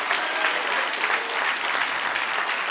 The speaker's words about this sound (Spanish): Denle un aplauso al que es rey. Aleluya.